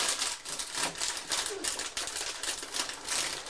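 A dense, continuous wash of bird chatter, many birds at once with fluttering, clicking texture and a brief low coo near the middle, steady and fairly loud throughout with no talking.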